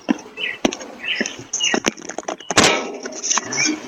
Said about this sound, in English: the lady that was being annoyed by it, ripping the door cam off the door. This is what it sounds like.